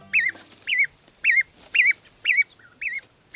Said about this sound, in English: These baby geese, or goslings, are leaving the nest.